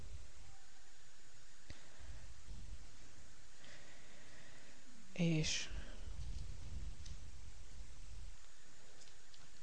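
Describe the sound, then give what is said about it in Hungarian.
A quiet room with faint background hiss, then one short, crisp papery rustle partway through as a page of a book is turned, turning back to the Book of Proverbs. A voice speaks briefly and softly. “lapozok már.”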